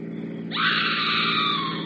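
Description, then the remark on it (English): A sudden high-pitched scream, like a woman screaming, breaks out and holds steady for over a second, loud and shrill over a low, constant rumble of the engine of a car driving along a road. “Sounds like a woman screaming.”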